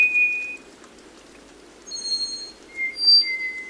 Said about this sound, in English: In wet mountain forests of Costa Rica, a slate-gray bird sings as it moves furtively in the dense understory. It's the black-faced solitaire.